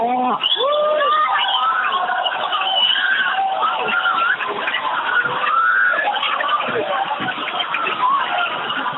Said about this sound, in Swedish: Ja, du hör. Jag hör jublet i bakgrunden och människor som visslar.